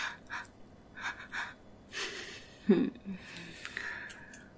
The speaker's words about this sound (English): There's nothing quite like that spike of fear that you see in a slave's eyes right before you release them from a nipple clamp. And that gasp. I love the gasp.